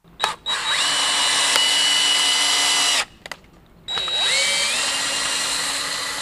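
A power drill whines loudly in two long runs, its pitch sliding as it bores core samples from hay bales for a hay-testing competition at the Lions Club Fair in Fayette County, Kentucky, with a brief sputtering pause between bursts.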